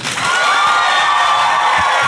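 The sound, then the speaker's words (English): A group of people bursts into steady, loud applause mixed with cheering and whoops on cue after a 3-2-1 countdown, a dense wall of sound that holds for a couple of seconds. “So when I point, that's when you clap.”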